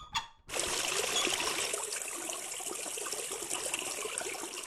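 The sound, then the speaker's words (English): After a brief knock, salt water pours steadily for several seconds in a salt water test, a continuous splashing hiss that stays fairly loud throughout. No one speaks. “Now, it's time for the salt water test.”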